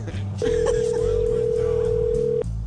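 telephone call ringing tone

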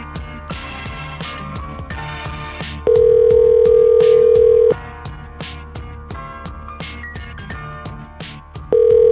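outgoing phone call ringing

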